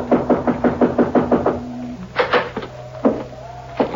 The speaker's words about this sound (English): I guess we knock. It's polite.